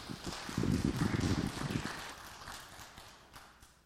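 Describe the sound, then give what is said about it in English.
An audience claps together in a brief, moderate burst of applause, many hands blending into a dense patter that peaks early and then gradually thins and fades. “If our football team scored a touchdown, we'd clap a whole lot louder than that.”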